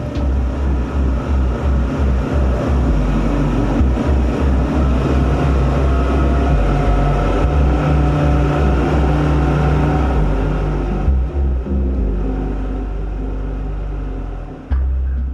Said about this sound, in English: Yeah, I was very happy the way the outboards pulled the boat off the beach. I was quite surprised at the amount of grunt